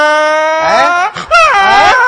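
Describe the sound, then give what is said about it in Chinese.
A man's voice imitates a donkey's bray: a long, loud, strained tone that breaks into wavering see-saw cries, pauses briefly for a gasp, then heaves out another rising-and-falling bray. “这 我一睁眼呢，我一看呢，我的天哪，都到晌午了， 啊， 那驴啊正啃我炕席呢。”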